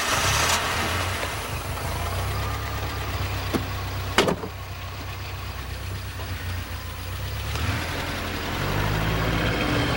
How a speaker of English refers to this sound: She watches them drive away.